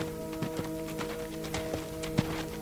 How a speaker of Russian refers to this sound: сам же уехал на лошади с дочерью и ружьем в сторону леса.